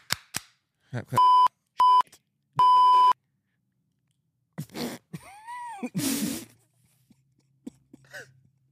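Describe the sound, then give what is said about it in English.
Three short, steady electronic beep tones sound in quick succession, like a voicemail prompt, followed by scattered clicks, a swooping warble and a brief burst of noise. No one speaks. “Please leave a message after the voicemail. Beep.”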